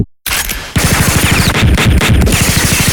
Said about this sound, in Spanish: Tiroteo fiero y desconcertado.